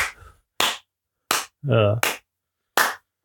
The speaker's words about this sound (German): Warte, Applaus.